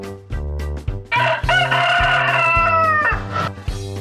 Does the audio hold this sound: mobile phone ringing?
no